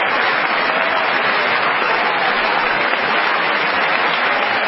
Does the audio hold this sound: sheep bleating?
no